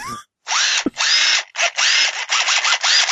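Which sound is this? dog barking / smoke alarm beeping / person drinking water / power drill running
power drill running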